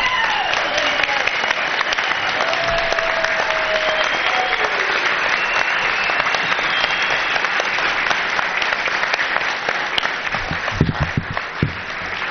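Sustained, loud applause from a large crowd of community members giving a standing ovation, a dense steady roar of clapping lasting throughout, with a few faint whoops and cheers rising above it.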